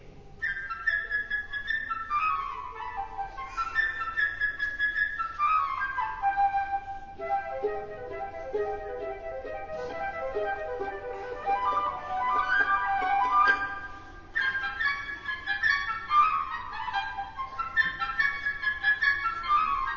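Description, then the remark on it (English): Orchestral music from Peter and the Wolf plays with no talking: a bright, high woodwind melody darts through quick runs and falling phrases over a softer, lower accompaniment, steady in loudness throughout. “Listening to a bit of Peter and the Wolf.”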